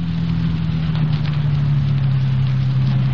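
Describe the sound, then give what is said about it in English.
A car engine hums steadily at low speed, a continuous drone with a slight shift in pitch, as the car pulls into a parking place with two eucalyptus trees at its side. No one speaks. “I'm gonna pull in”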